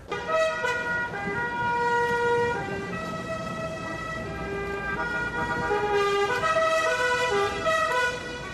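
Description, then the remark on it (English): Several car horns blare at once in a loud, continuous chorus of overlapping held tones, with traffic rumbling underneath and no break for the whole stretch, as car club drivers and members begin cruising in procession through Havana. “Then, horns blaring, the drivers and club members pile into their cars and begin cruising in procession through Havana.”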